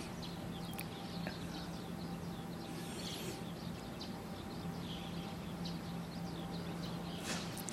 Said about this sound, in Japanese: ヒバリがよく鳴いてますね。僕のいる大学はそばが田んぼなんです。ですからそばが田んぼで、しかも、あちこちにその田んぼの周りに造成地みたいなね、田んぼを潰した後の、空き地があって、そういうとこがヒバリの格好の住処になってます。